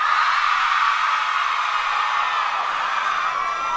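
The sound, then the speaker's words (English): The girls in a large audience let out a sustained, high-pitched collective shriek, like frenzied Beatlemania screaming, loud and unbroken for the full length with no talking over it. “I would like to hear all the girls give a Beatles scream, please.”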